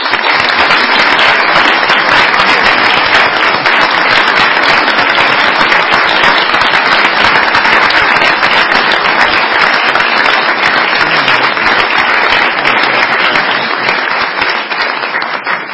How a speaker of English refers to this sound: could you stand up and let everyone give you a round of applause?